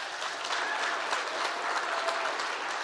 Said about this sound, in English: Man, can we just start off by giving a round of applause to our youth band?